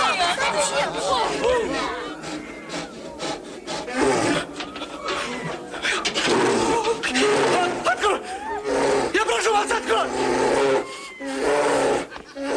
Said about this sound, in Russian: Медведь? Да, медведь. Михаил Потапыч. Медведь.